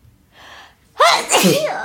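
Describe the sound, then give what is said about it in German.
A single loud sneeze, preceded by a soft breathy intake, then a sharp explosive burst that trails off into a brief breathy tail. “Oh, ich dachte, ich muss niesen, aber warte.”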